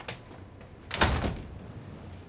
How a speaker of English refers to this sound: Grace shrugs and leaves, closing the door behind her.